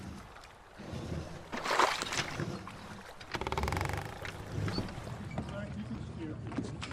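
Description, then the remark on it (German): A small boat moves through water, with steady sloshing and splashing against the hull that swells twice into louder surges before settling into a continuous wash. “So setzte ich mich wieder in das Boot”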